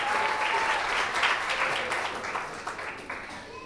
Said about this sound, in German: Dann komm doch unter lauten Applaus und einem Pop-Pop-Pop-Poetry auf die Bühne.